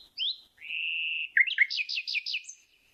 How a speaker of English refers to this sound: And that's the sound that among all the sounds that male nightingales make, this is the one the females like the most. And it's going, bee. It's like, bee. It's this one sound very hard for people to make.